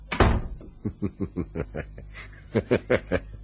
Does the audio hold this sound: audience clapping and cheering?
no